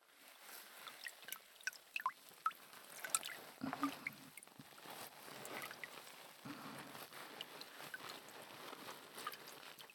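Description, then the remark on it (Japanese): Wet, squishy scrubbing of a body towel working soap into fine foam for a full-body wash at a hot spring, a steady lathering texture with small crackling bubble pops and drips, and no voices. “ボディタオルでしっかりと泡を立てて”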